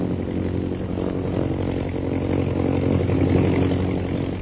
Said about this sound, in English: see how those bombing planes are circling? Yes. Both the bombers and scouts are concentrating. One's coming this way.